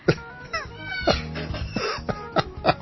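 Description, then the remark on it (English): A parrot screams in a quick series of harsh, squawking bursts, about six over a few seconds, loud, with some faint background chatter. “Look, even the parrot screaming.”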